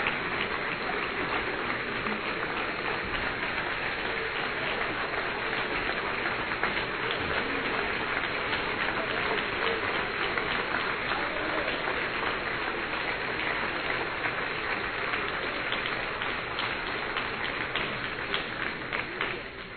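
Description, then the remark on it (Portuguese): A large crowd in a church applauds steadily, a dense, continuous wash of clapping that holds at an even level for about twenty seconds before easing slightly at the end, with no one speaking. “Vocês aplaudiram o meu discurso?”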